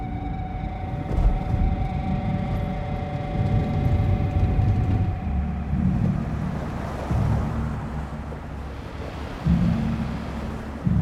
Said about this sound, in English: Turn here. Here. The car turns onto another road from the middle lane.